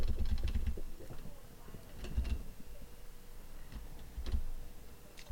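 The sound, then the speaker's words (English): Computer keyboard keys clicking in short, uneven bursts of taps, moderately quiet, as someone steps through a video frame by frame, with brief pauses between flurries and a low hum underneath. “Can I see the keyboard?”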